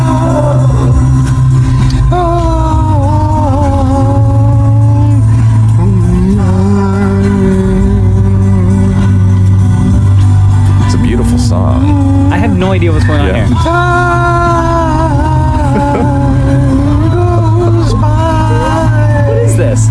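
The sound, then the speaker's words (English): A steady, loud low rumble of a car driving, heard from inside the cabin, with wavering musical, voice-like tones playing over it throughout. “And also, by the way, not once during this minute of driving did he look in his rearview mirror, by the way”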